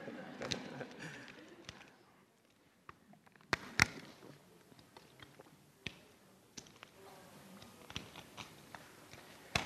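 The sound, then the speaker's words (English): Someone sipping a drink of water: soft wet mouth noises and swallows broken by scattered sharp clicks, irregular and fairly quiet, with no talking. “I'm just going to take a wee drink of water.”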